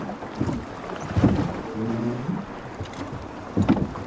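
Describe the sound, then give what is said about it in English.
A rowing boat out at sea beyond the breakwater at Colliston: steady sea and wind wash, a few splashing oar strokes at uneven intervals, and a creaking, groaning oarlock sound drifting through the middle. No voices. “We're now out beyond the breakwater at Colliston and into the sea, which looked pretty flat till we got out onto the sea.”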